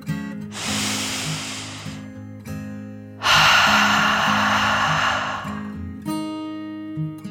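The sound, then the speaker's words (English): A deep dragon breath: a long, airy inhale, a short pause, then a longer, louder rushing exhale, all over a low, steady humming drone. “Then Dragon took another deep dragon breath, in and out.”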